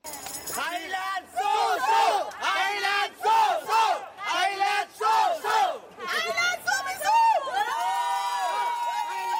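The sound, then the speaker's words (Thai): A crowd of Thai football fans cheers and chants loudly in rhythmic bursts at the women's football World Cup in Canada, during Thailand's match against Norway, many voices rising and falling together in a steady pulse, ending with a long sustained shout. “รวมทั้งยกย่องชมเชยกองเชียร์ไทยที่ส่งเสียงเชียร์ดังไม่หยุดตลอด90นาทีถือเป็นสีสันที่โดดเด่นในการแข่งขันฟุตบอลหญิงชิงแชมป์โลกที่แคนาดาในครั้งนี้”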